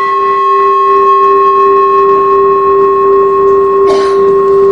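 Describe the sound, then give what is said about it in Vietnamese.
A large temple bell, struck at an angle so the bell tips and its sound rises upward, rings on with a steady, humming tone and bright overtones that hold evenly throughout, with a short clatter near the end and no voices. “Chuông là không có thỉnh ngang về, thỉnh như vậy là mình lật cái chuông, mình hất cái chuông lật á, thỉnh xéo vậy nè, để mình đưa cái tiếng chuông nó đi lên, phát cái tiếng chuông nó lên.”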